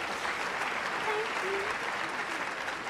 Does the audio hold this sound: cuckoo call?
no